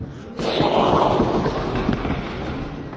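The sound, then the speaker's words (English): A group of people make a loud, rushing storm noise together, a sudden swell of blowing, whooshing and rumbling voices that holds steady for a few seconds, imitating wind and thunder. “Can we all make a storm noise?”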